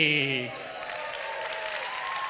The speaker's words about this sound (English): You see, their applause got a little shaky towards the end.